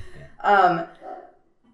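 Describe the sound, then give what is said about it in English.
A dog lets out one loud, tonal bark, then a softer, shorter yelp or whine trails after it. No one speaks. “There's another dog. It's another dog.”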